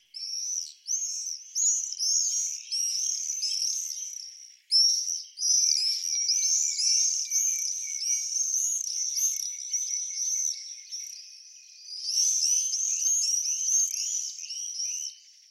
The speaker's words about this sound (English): And then this sound, for me, is the epitome of high summer. This is the scream of the swift.